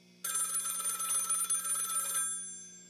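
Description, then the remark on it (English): A telephone bell rings in one sustained, rattling burst lasting about two seconds, loud, then cuts off leaving a faint hum. No one speaks. “It's mine. And it would continue to ring. Long after I got rid of that phone. The ringing lived on.”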